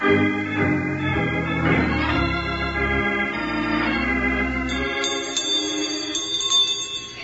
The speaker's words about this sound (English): What's that, Jingles? Ringing a bell? Sure, I'd like to ring this bell all the time. Well, if you did that, partner, you'd have to teach school also.